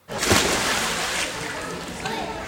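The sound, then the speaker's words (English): A person plunges into water with a sharp splash, followed by a couple of seconds of churning, sloshing water. “diving into the water in Vegas, I think.”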